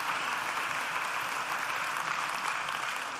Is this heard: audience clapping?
yes